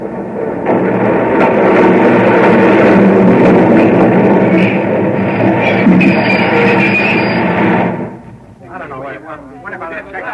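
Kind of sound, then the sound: vehicle, subway train running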